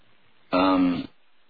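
A single loud throat clearing, a short rough voiced burst lasting about half a second, with quiet before and after and no talking.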